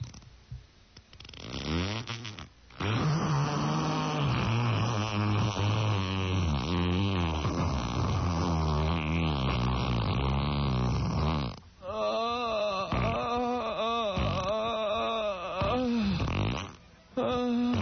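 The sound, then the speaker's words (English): A person dry heaving over a toilet in a bathroom, heard over a cellular phone: a long, loud, strained guttural retch followed by a series of shorter choking heaves, with a tinny, phone-like quality. “Would you like to hear another dry heat from the pot?”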